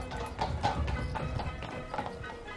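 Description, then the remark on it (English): A horse-drawn landau carriage approaches with steady, rhythmic hooves clip-clopping, a brisk repeating beat over a low rumble of wheels and background noise. “Here comes the landau.”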